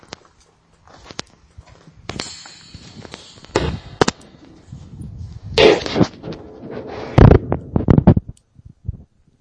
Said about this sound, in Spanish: en aquel momento en el laboratorio coincidíamos, que era como parecía como un cañonazo, como un disparo, ¿no? Y nos confirmaron de que era el disparo de un fusil de aquella época.